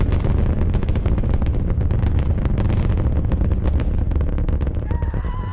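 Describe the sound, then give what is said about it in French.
A deep, continuous roar of NASA's SLS rocket launching the Artemis mission, rising slowly at first, then faster toward space; loud and sustained throughout, full of rumbling low end and ragged crackling bursts, with a faint whistling tone creeping in near the end. No voices. “alors que SLS s'élève dans le ciel. Doucement d'abord, on sent qu'elle est lourde et qu'il faut de la puissance pour la mettre en mouvement.”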